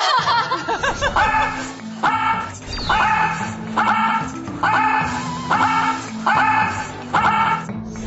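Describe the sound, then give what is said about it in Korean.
A person imitates a dog, voicing a run of about eight short, bark-like yelps in a steady, bouncy rhythm, loud and close, with some laughing sounds mixed in, demonstrating the 'dog breathing' technique (개호흡법) for breath training. “강아지? 멍멍?”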